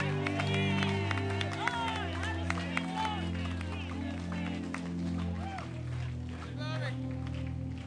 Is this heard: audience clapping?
yes